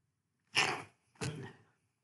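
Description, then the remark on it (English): Two sharp sneezes in quick succession, fairly loud, each a short breathy burst separated by a brief pause, with no talking around them. “Gesundheit.”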